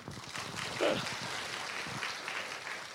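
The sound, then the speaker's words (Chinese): A church audience applauds in a steady, continuous wash of clapping that holds an even level throughout, with a brief tonal vocal sound rising over it early on, after a prayer welcoming a new member into the church. “好，鼓掌。”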